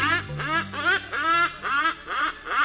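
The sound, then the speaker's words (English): A hornbill calls in a steady series of about six loud, nasal honks, each rising and falling in pitch, with short pauses between them and no voices. “Take comfort in the bird that does it year after year, the hornbill.”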